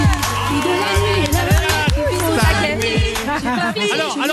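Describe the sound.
A live audience applauds and cheers steadily for several seconds: a dense, loud wash of clapping with high whoops and shouted voices rising and falling through it.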